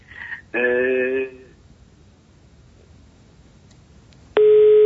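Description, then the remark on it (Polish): A loud, steady telephone busy tone cuts in near the end after a caller hangs up on a radio call-in line, following a short electronic chirp and a brief buzzing burst on a quiet, slightly noisy phone line. “No niestety ktoś nam się, panie premierze, rozłączył.”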